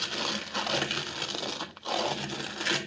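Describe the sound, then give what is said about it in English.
A heavy secret stone door in a rock wall grinds shut, a continuous rough scraping rumble that briefly catches and pauses before grinding on to a close. No voices are heard. “Stand back, Kino, while the door closes.”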